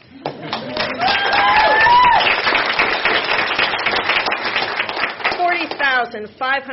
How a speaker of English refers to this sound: I think we should cheer.